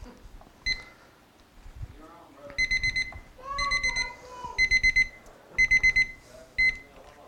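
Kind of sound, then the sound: signal or alarm, timer alarm beeping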